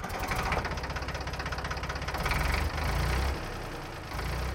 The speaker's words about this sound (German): Guck mal, es gibt sogar Geräusche, die wir noch nicht umgedreht haben. Ein Trecker. Wo könnte der noch sein?